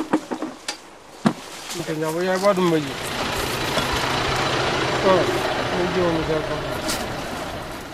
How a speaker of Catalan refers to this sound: De tant en tant passa el pagès amb el tractor i s'emporta les caixes cap al magatzem.